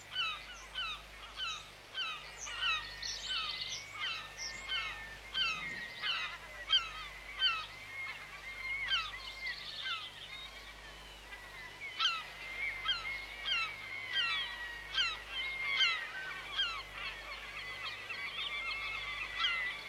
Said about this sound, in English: You see gulls and birds.